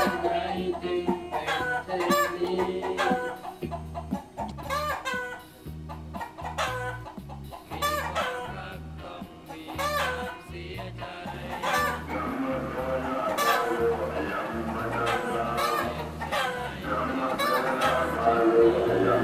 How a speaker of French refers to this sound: Mais ici, là, le coq n'est pas français. Le coq est thaï.